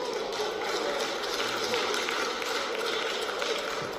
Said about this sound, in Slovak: Tento potlesk nepatrí len poslancom, poslankyňam, ministrovi a ministerstvu. Veľká vďaka patrí aj ochranárskym organizáciám a všetkým vám, ktorí ste podporili petíciu alebo sa akokoľvek zastali ochrany prírody.